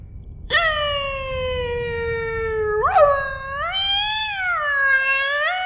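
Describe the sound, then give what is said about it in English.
A man's voice imitates a whale call: one long, sustained tonal moan that swoops upward, then wavers and warbles in slow rising and falling glides, loud with no words. “I think he's making whale sounds.”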